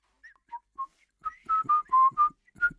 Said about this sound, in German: Im Alltag, fernab der hohen Kunst aber, ist Pfeifen oftmals ein hörbares Zeichen von guter Laune. Und fast jede tut es, häufig unbewusst.